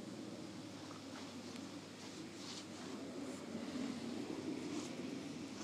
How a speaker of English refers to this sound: Wow. This fresh breeze.